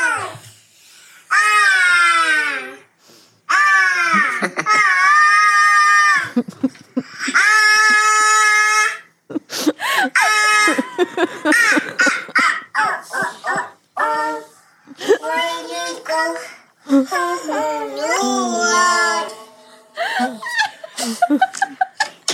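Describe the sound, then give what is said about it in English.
A toddler babbles, squeals and giggles into a studio microphone through a soundboard's voice modulator, making loud, warbling pitch-shifted bursts in quick succession with short pauses between them. “So you guys can listen to what it's like to have a toddler have access to a soundboard.”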